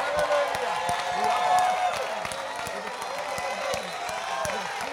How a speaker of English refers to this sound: And perhaps right now, just as an expression, stand to your feet, clap your hands and shout unto God with a voice of triumph in Jesus' name.